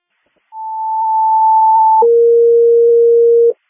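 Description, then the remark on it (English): A loud, steady electronic alert: a higher pure tone held for about a second and a half, then a lower tone for the same length, the classic two-tone fire dispatch page with no voices, sent for a motor vehicle accident call in Algonquin. “Master C, we didn't hear any tones.”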